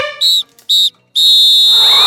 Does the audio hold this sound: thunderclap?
no